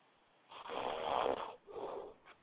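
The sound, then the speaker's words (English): A caller on a live radio call-in line snores over the phone, two drawn-out rasping breaths with a short pause between, muffled and band-limited, at moderate loudness with no talking. “519, you snoring back there? You sleep?”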